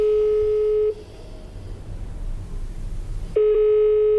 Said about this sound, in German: Dummerweise geht beim Bezirksamt wieder niemand ans Telefon.